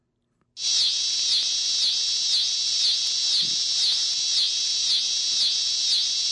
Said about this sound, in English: And there's actually a type of cicada called the dog day cicada, which is very well known for some of the sounds it produces.